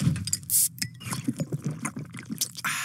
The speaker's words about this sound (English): When you hear the carbonated water go into the glass today, it's exactly what it would have sounded like in 1886 when they did it at Jacob's Pharmacy.